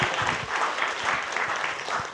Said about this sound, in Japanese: Let's give them a hand。 皆さんどうか拍手してください。